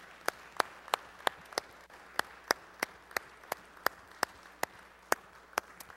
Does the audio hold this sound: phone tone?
no